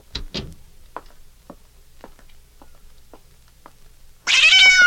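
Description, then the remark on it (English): A loud, drawn-out, harmonic meow from a cat named Susie rings out at the end after a series of soft, evenly spaced ticks and two brief scratchy sounds at the start. “You like that cat”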